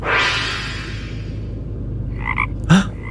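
Frogs croak over a low, steady hum, with a broad burst at the start and a few short, bright croaks and a sharp louder call near the end.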